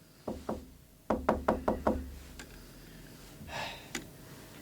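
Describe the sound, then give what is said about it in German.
Someone knocks on a locked door, two quick raps followed by a firmer burst of five, loud, then a faint rustle and a single sharp tap near the end. “Was ist denn los? Die Tür ist doch offen. Was soll denn das? Ja, kommen Sie rein.”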